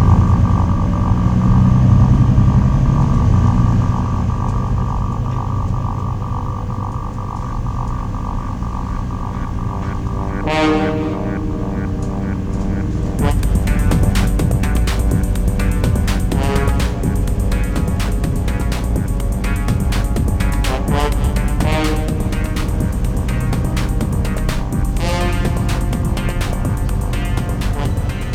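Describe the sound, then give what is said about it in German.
A bus is driven fast, its engine a loud, steady roar that fills the whole stretch, with a rising whine partway through and rattling, clattering noise layered on top in the second half. “Kurz darauf bog Sam vom Hauptweg in eine kleine Schneise und parkte den Bus”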